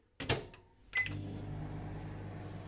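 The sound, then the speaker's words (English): A microwave oven in a flat starts up to heat three Weetabix mixed with milk: a couple of clunky clicks from the door and buttons, a short electronic beep, then a steady, droning hum that continues to the end. “This is brunch of three Weetabix. Mixed with milk and put into the microwave”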